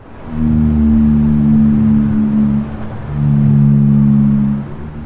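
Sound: blue whale call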